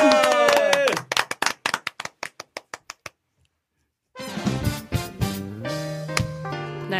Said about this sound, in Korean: 자 박수로 한번. 예!